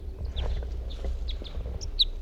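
bird, male bird singing

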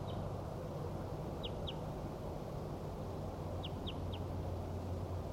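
bird, distant wild bird calling

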